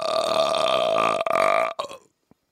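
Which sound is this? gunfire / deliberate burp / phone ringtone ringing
deliberate burp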